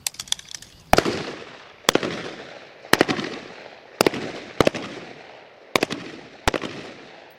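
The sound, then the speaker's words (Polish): Gunshots ring out at a shooting range as shooters fire at bust targets on command: about seven sharp, loud cracks at uneven intervals, each trailing off in a brief rumbling decay, with a few faint clicks before the first shot. “Zmiana na linii otwarcia ognia. Naprzód!”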